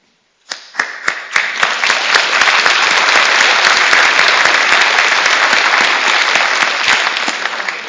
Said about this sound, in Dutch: Laten we maar eens klappen, dacht ik bij mezelf, want je hebt het goed gezongen.